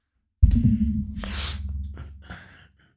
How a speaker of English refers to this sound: It's just, sorry, I had a little sniffles there. Oh, goodness, hold on.